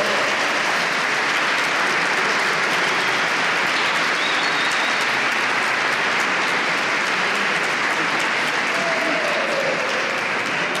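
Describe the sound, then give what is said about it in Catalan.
Loud, sustained applause from an audience for a group of singers about to perform Christmas songs with piano accompaniment, a dense wash of many hands clapping steadily for about eleven seconds without a break or any clear voices. “Un fort aplaudiment, sisplau, per tots ells i elles.”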